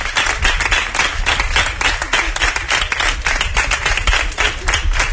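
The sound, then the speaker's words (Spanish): A loud ovation from a large crowd at a coalition's political campaign launch presentation: dense continuous applause with rapid overlapping claps sustained evenly throughout, no voices standing out. “Una fuerte ovación.”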